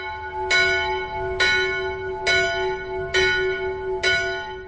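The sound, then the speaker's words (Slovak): The bells of a small church in the Tatras, Slovakia, cast in the Hönig Frídeš family workshop in the early 20th century, ring out in a steady sequence of five loud strikes about a second apart, each one blooming with bright overtones and a sustained hum that lingers between strokes. “z ktorej sa dozvieme, že všetky zvony vznikli v dielni rodiny Höniga Frídeša, ktorý začiatkom 20. storočia odvial aj tieto 4 zvony pre tento náš tatranský kostolík.”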